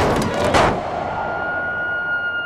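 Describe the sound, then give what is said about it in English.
A car swerves and strikes a deer on a winter drive toward upstate New York: a loud, broad thudding crash early on over a rushing engine-like roar, then a thin, steady high-pitched whine lingers as the noise settles. “Father shouts. The car swerves. A deer is hit.”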